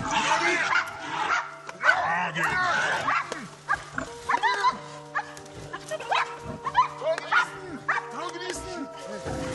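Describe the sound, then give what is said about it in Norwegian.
Five large dogs bark, yelp and snarl in a frantic, continuous tangle while biting into the neck and ears of a wild boar, which squeals shrilly as it fights for its life, with loud overlapping cries rising and falling throughout a violent struggle. “På skjermen har 5 svære hunder bitt seg fast i halsen og øra til et villsvin som kjemper for livet.”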